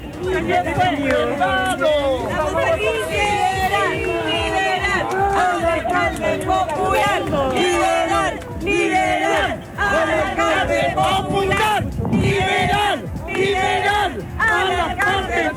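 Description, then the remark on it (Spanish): A loud crowd of supporters chants and cheers continuously outside the Centro de Justicia as former Recoleta mayor Daniel Jadue comes out, many voices overlapping in rhythmic shouted phrases with bursts of yelling, a dense, unbroken roar of excited people outdoors, with many flags. “Sí, escuchamos un poco el ambiente de lo que es la salida de Daniel Jadue al centro de justicia.”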